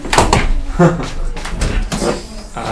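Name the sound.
door being closed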